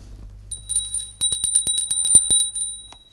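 A small, bright bell rings up close in a quick burst of about a dozen rapid dings, its high tone lingering, with no talking, just a low background hum.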